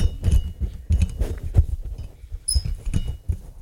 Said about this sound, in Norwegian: når du sitter og fikler med mikrofonen